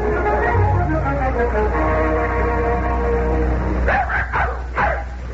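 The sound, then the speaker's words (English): Dogs, one named Buttons, bark and yip excitedly while playing, their playful whines and yelps overlapping, with a sharper burst of barking near the end over a steady low background hum. “Smith, playing like a couple of puppies.”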